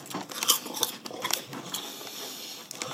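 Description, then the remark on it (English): Someone crunches Snaps crisps with a string of sharp, irregular crackling bites and chewing, bright and brittle, with a few louder snaps standing out and no talking. “This is a top three crisp.”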